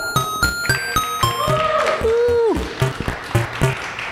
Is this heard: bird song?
no